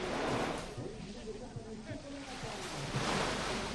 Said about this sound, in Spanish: a ver, el sonido real del mar